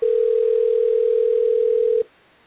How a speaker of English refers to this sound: Okay, here we go. It's ringing.